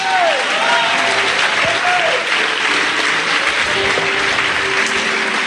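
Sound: audience clapping and applause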